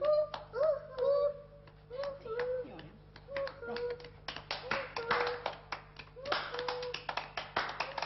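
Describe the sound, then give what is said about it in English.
Scattered hand claps grow into a dense, uneven burst of clapping from several people, louder in the second half, while voices make drawn-out sung or hooting sounds underneath. “Clapping. We need a louder lighthouse. Louder.”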